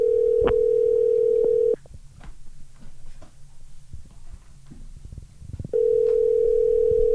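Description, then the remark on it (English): A steady, loud, mid-pitched telephone dial tone hums for a couple of seconds as a phone call is being placed, cuts out into faint rustling and clicks, then returns unchanged at the end. No one speaks. “That's where I'm making this phone call right now.”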